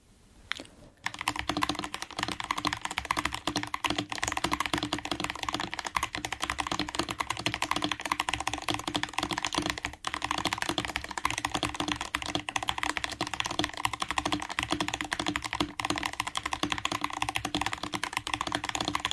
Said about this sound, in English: I've been using this keyboard for a few weeks, which I think is helping with my accuracy.